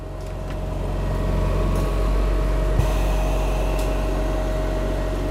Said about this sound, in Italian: Il ventilatore meccanico è palesemente desueto, ma è l'unico disponibile per l'anziano degente affetto da Covid in fase attiva. Siamo nell'ospedale di Rabuni.